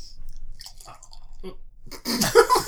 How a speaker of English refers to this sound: I thought you were pouring beer into my lap. I was like, Boo! Not in the lap.